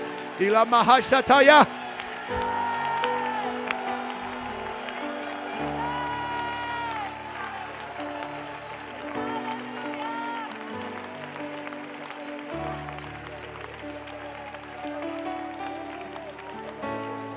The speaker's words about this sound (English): Now, I want you to clap your hands to the Lord and shout with the voice of triumph right now.